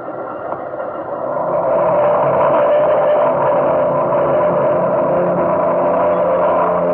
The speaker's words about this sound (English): Silver flying boat noses through the water, rises and sweeps off on the first Trans-Pacific airmail flight.